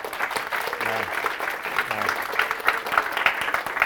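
A crowd applauds everyone who helped with food and transportation at an event, steadily, a dense wash of many hands clapping at a fairly loud, even level with a few sharper claps standing out near the end.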